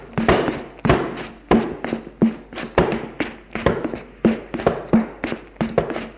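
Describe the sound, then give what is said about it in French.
Fists pound hard on a door on the first floor about ten times in a steady, insistent rhythm, striking with full force. Each heavy thud is loud, with no voices. “Il trouve une porte et de toutes ses forces se met à frapper, frapper, frapper sur la porte.”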